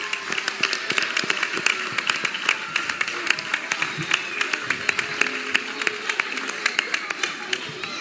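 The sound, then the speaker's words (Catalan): An audience applauds for about eight seconds, many hands clapping in a dense, steady patter of sharp claps that keeps an even loudness from start to finish. “Un fort aplaudiment i moltes gràcies a tots per venir i escoltar-nos.”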